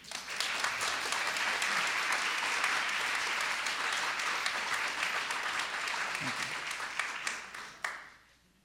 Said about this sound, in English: Let's give him a great round of applause.